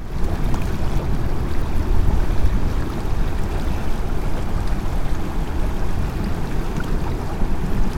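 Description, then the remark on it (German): Steady riverside ambience by the Saale river at Bad Dürrenberg, Germany: a continuous low rush of moving water mixed with gusty wind buffeting the microphone, fairly loud and unbroken throughout, with no voices. “Also setzte ich mich mit meinem Eis ans Wasser.”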